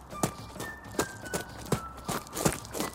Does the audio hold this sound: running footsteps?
yes